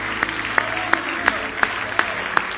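An audience at a church service claps hands in praise of the Lord in a steady, even rhythm, seven sharp unison claps at a brisk pace over a constant wash of crowd noise.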